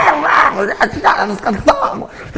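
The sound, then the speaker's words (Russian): A person imitates a dog, letting out a run of short, yappy barks and whiny voiced yelps in quick succession, fairly loud. “Пожалуйста, собака в следующей жизни.”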